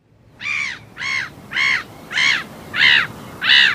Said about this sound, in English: Produce a bag of breadcrumbs at your local park lake and you'll soon get the full attention of the local black-headed gulls. Black-headed is a bit misleading because in spring and summer these gulls have not black but chocolate brown hoods.